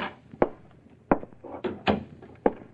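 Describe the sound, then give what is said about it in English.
A private investigator's office door with frosted glass and faded gilt lettering being opened, with a series of sharp clunks and rattles from the handle and latch, spaced unevenly over a few seconds. “Faded gilt lettering on a frosted glass door tells you who Lucille was calling on this time.”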